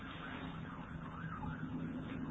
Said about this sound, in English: But through all of that, the sirens, all the noise that goes on in the city and wherever you are